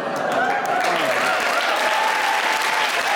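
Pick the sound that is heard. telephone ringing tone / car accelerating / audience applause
audience applause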